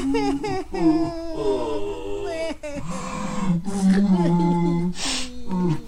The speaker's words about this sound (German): Ach, ihr zwei, hört auf zu weinen.